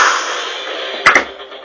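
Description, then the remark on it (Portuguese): A steady hiss runs underneath, then two sharp gunshot bangs fire in quick succession near the end, each cracking loudly before fading. “Dá um tiro.”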